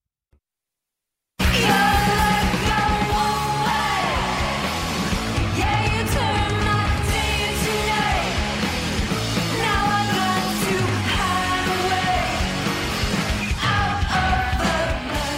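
Loud, dense rock music with distorted guitars and pounding drums under a yelled, shouted vocal, starting abruptly after a brief silence and staying at full intensity throughout.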